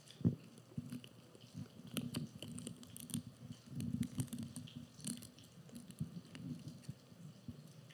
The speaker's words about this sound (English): So, Father, we take this bread, we take this wafer, and we eat it in remembrance of your body broken for us.